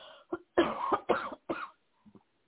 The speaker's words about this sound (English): Forgive me for all this coughing.